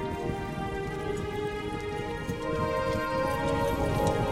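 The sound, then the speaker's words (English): Steady horse hooves clip-clopping at an even pace, blended into a constant wash of rain-like noise and a sustained tonal backdrop, with no voices. “Leaping forward again, you find yourself on a horse, a beautiful white stallion with such powers it sends shivers down your spine.”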